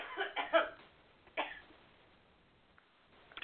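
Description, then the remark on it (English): A quick cluster of three or four dry coughs, then a single cough after a short pause, thin and muffled as if over a phone line, fading into quiet. “Okay, I'll get myself a cough drop.”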